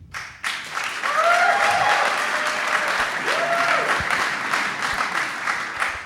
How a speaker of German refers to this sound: Wir machen jetzt mal so einen kleinen Jubel-Contest. Wer ist für Jonas Vingegaard?